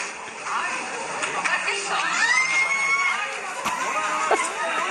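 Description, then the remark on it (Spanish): At a town council budget meeting, a crowd of people erupts in overlapping screams and shrieks as several raccoons fall, including a woman's scream, with a high rising yell standing out midway, all blended into a dense, continuous clamor of excited voices. “Pero caen varios mapaches. Sí. El grito de la señora, la de azul. Y todos gritan.”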